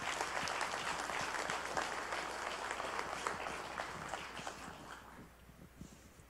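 An audience applauds with dense, steady clapping that holds for several seconds, then thins out and tapers off toward the end.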